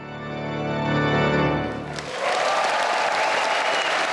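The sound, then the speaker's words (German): A sustained chord on the great organ of the Elbphilharmonie in Hamburg, played by three Hamburg organists at the Day of the Organ, rings out and fades, then the audience jumps up and a loud, dense wave of applause with cheering bursts in and continues steadily to the end. “Zuschauer springen auf, Jubel, Begeisterung, denn in der Elbphilharmonie, da haben drei Hamburger Organisten die große Orgel richtig gerockt.”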